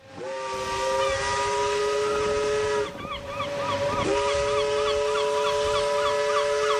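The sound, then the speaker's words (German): The whistle of the steamship Astrida, sailing from Antwerp via Madeira to Santos in June 1935, blows loud and sustained, a deep harmonic tone with breathy hiss, briefly dipping twice before sounding again, with faint bird-like chirps in the background. “Mit dem Dampfschiff Astrida schipperte Riedel nicht von Hamburg, sondern von Antwerpen aus über Madeira nach Santos.”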